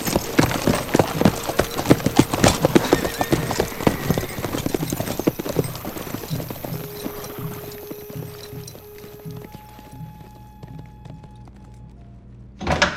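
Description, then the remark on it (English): Several horses ridden by Cheyenne dog soldiers clip-clop at a steady walk as they ride quietly away, the hoofbeats starting loud and busy, then thinning and fading out as they move off, with a low rumble underneath. “He raised his feather and brass tack decorated rifle to signal the dog soldiers. They all rode quietly away.”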